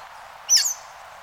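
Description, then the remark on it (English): A single brief, high-pitched phrase of a scaly-breasted thrasher's simple, repetitive song rings out once, sharp, against a steady background hiss with no voices. “Some bird songs, like that of the scaly-breasted thrasher, are simple and repetitive.”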